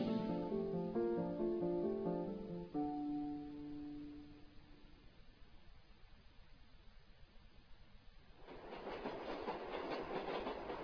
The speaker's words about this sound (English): I was on my way into work, and I was taking the subway, which is elevated subway. And as the subway heads to New York, there comes a point where it makes a very abrupt left-hand turn, almost a 90-degree turn.